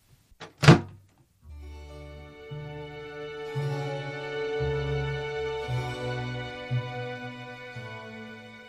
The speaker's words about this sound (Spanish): La anciana salió de la habitación y cerró la puerta.